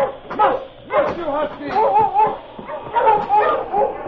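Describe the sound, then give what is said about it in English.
A pack of sled dogs from a dog team barks and yips excitedly, a dense, overlapping chorus of high-pitched yelps and whines that keeps going without pause. “All right, you lazy hounds, up!”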